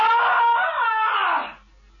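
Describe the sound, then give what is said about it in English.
A single loud, shrill, piercing scream held for about a second and a half before trailing off and cutting out, with no talking around it. “I'll give you a real blood curdler.”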